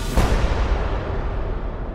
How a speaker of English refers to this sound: He heard the hammer on the gun fall as the gunman attempted to shoot him, but the gun misfired. He curls up into a fetal position, anticipating that shot, and then the second shot goes off.